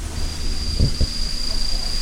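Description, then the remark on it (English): Phantasmal poison frogs trill in a thin, high-pitched, unbroken buzz that runs steadily through the whole moment, in a space built to emulate a rainforest. Two brief low thumps break in near the middle. “Here we have phantasmal poison frogs. They're not poisonous in captivity. They're the ones you can hear, like the kind of trill sound.”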